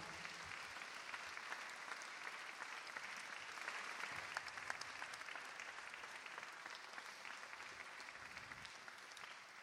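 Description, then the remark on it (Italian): Steady audience applause fills the whole stretch, a dense crackle of many hands clapping at a constant level from a crowd welcoming each other at a 2015 winter party at a monastery, with no talking over it. “Bene, allora, buonasera a tutti, benvenuti, e intanto facciamo un bel applauso così ci accogliamo.”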